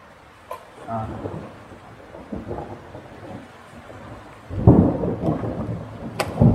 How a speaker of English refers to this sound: Oh, it's long overdue, the rain. It's been a long time since there's any rain.